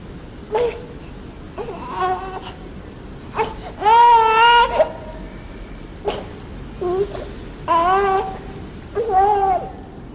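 A baby cries in repeated bursts, wailing and whimpering with short pauses between cries, loud, with no other sounds around it; the baby cannot be quieted.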